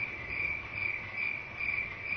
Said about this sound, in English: Crickets. A little sound helps, doesn't it?